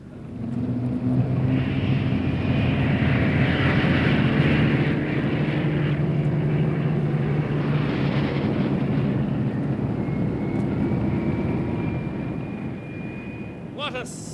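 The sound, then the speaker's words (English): A loud, steady roar of propeller aircraft engines builds quickly and holds, with a droning hum and a faint rising whine near the end, as a thousand planes take off towards Blackpool. “A thousand planes taking off towards Blackpool.”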